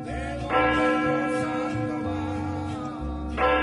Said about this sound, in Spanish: Hasta la casa de Jovita sonaron las campanas.